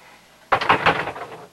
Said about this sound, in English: On the upstairs landing, Adam pauses, then knocks on the bedroom door.